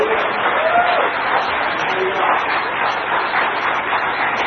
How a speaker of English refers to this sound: Well, give Him a hand clap for it if you believe it. Amen.